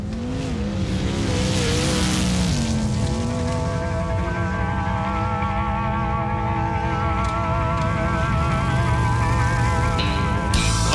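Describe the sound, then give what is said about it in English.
Loud, sustained roar of sprint car engines racing at a sprint car race show, with high-pitched harmonic whines rising and falling as the cars accelerate, continuous with no voices. “welcome to this full throttle thrill show that is World Series Sprint Cars”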